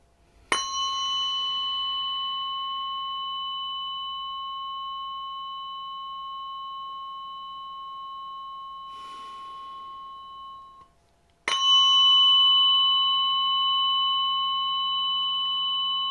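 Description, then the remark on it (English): A weighted metal tuning fork, placed on the sternum, is struck twice, each strike producing a clear, sustained pure tone that rings steadily for several seconds before being cut off, with no voices. “I take a moment and I place my weighted fork on your sternum, on your chest, and I slide the weighted fork down on your sternum”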